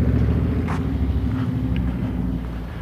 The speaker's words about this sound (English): No, just a motorcycle. He's probably gonna go roaring by me in a minute.